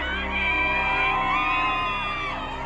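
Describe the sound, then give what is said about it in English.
A crowd of Johnny Depp fans outside the Virginia courthouse cheers and whoops loudly and steadily, many voices overlapping in high-pitched shouts and yells for nearly three seconds without a break. “Outside the Virginia courthouse, Depp fans gather to cheer on their hero.”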